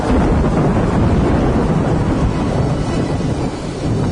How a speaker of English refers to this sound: Thunder. They heard that.